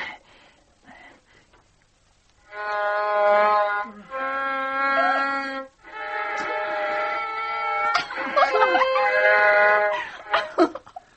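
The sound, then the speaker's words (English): A violin screeches and wails in long, uneven bowed strokes, loud, with wavering pitch and scratchy breaks between strokes, like a novice sawing away without any tune. “Oh, you can't play the violin if you haven't learned.”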